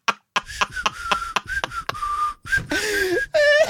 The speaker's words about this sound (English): That's me whistling down the middle of my tongue. And your mouth is just open? Yeah.